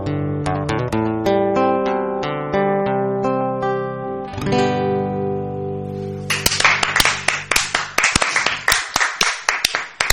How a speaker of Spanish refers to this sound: Muy bien. Ese aplauso fuerte.